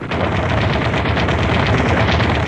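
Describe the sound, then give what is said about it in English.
A sustained machine gun fire sound effect: a loud, rapid, unbroken stream of shots rattling at a steady rhythm for the whole stretch, with no voices. “No, I dropped my machine gun.”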